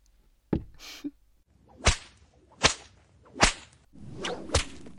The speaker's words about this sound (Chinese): 不过我正在兴头上，就再赏你几鞭吧。